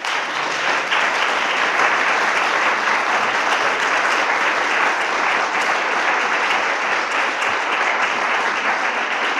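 An audience applauds steadily for the reader at the close of a talk on poetry, a dense, even wash of many hands clapping at a constant loudness for the full stretch, with no voices rising above it.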